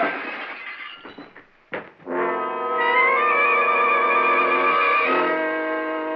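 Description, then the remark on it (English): A sharp gunshot crack, fired through a window and hitting a janitor, bursts out with breaking, shattering glass, then gives way to a loud, sustained tonal swell that holds steady for several seconds before fading slightly. “Someone had fired through the window and nailed the janitor before I could make him talk.”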